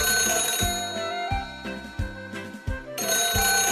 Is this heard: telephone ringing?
yes